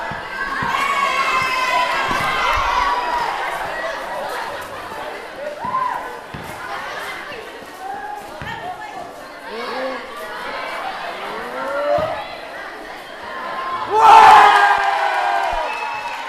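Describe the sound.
A dense crowd of schoolchildren shouting and cheering under a school's covered playground during recess, voices overlapping continuously, with a louder burst of excited yells near the end.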